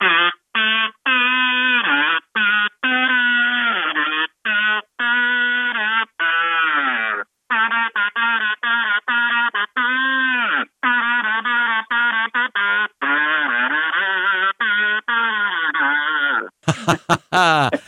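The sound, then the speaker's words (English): A buzzy, nasal tune hummed on a kazoo, a long run of short notes with swooping, sliding pitch, played loud and alone and cut off by a brief crackly burst at the end. “Can you hum us a tune on a kazoo?”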